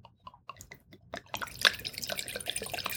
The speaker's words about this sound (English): All right, we're pouring a little bit of this wine in here. We're going to give it a little bit of a swirl.